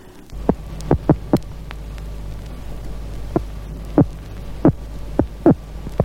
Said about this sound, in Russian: Сейчас вы слышите вот эти отдельные удары, электрический сом издает во время обороны. Сила этих импульсов особенно велика.